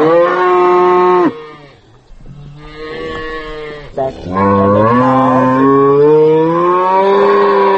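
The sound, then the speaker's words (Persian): A Polish cow named Planka moos loudly, with several long, drawn-out calls in a row separated by short pauses. No one speaks. “مادری دوگانی که چند پیش چنین یک گاو گرفت و نامش رو هم پلانکا گذاشته است.”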